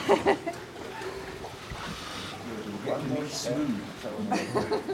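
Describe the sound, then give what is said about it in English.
People clamber backwards down a ladder into a big inflatable rubber boat, with soft thumps, shuffling and a little water movement mixed under chatty voices and occasional laughter. “Into a rubber boat, how exciting.”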